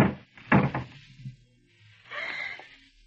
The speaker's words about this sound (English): A moment later, you slip quietly out the back door, hurry to the garage, and lift the door.